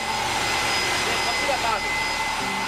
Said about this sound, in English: The plant uses steam from underground to generate power. I went inside one of the buildings where they had a turbine moving or spinning using the steam coming from underground. And it was spinning at a very high speed and it was incredibly loud.